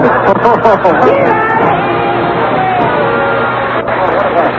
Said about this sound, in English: What a crowd, eh?